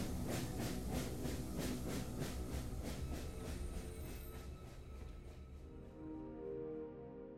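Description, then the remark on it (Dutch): A train heading to Germany rolls steadily along the rails, its rhythmic clatter loud, with a broad mechanical rumble that eases off slightly toward the end. Nobody speaks. “De trein kan verder.”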